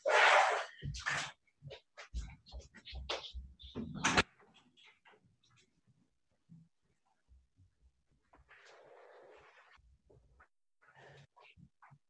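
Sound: door being opened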